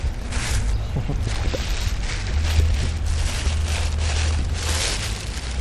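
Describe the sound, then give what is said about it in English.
Continuous crinkly rustling of tissue paper being pulled and unwrapped from a heavily wrapped item, a dense crackling hiss with brief sharper crinkles throughout and a steady low hum underneath. “They told me there's a lot of tissue paper.”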